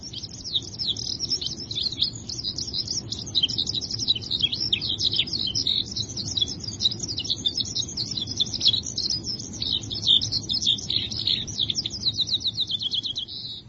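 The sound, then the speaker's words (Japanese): A single skylark, rising from a thicket of ripe white oats, sings a long, unbroken stream of rapid, high trilling and chirping notes, steady, over a low background rumble of wind or noise. “声自慢のヒバリが一羽、今白く熟れたカラス麦の茂みから舞い上がった。”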